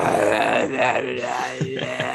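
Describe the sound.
A voice imitates a fart into a microphone with a long, buzzing, wavering raspberry that rises and dips in pitch, sustained and fairly loud for about two seconds, with no words spoken.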